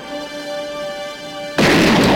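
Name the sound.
gunshot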